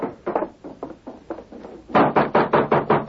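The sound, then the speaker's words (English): Knocking on the wooden door of a house where a girl lives alone: a steady run of moderate raps, then a louder, more insistent burst of evenly spaced knocks, with no voices. “Don't look like she's going to answer the door.”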